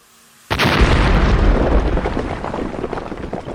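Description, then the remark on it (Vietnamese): A sudden loud explosion from explosives blasting open a granite stone tomb door erupts after a brief quiet, followed by a long rumbling roar and crumbling debris as the door shatters, slowly fading, with no voices present. “Sau tiếng nổ lớn, cánh cửa lăng mộ vỡ vụn”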